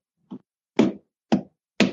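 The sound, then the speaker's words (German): Four dull wooden knocks imitating a heartbeat, demonstrating how a heartbeat works, in a steady rhythm about half a second apart, the first one softer and the rest firm and thumping, with no voices. “Ich habe, du weißt doch, dass ich manchmal so kleine Spielchen mache, wenn ich zum Beispiel erkläre, wie so ein Herzschlag funktioniert. Ich zeig das mal.”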